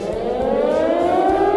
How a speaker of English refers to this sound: Only 2 weeks to go. Sound the alarm.